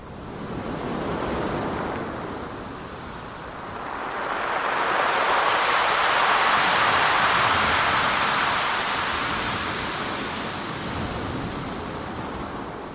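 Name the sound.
ocean waves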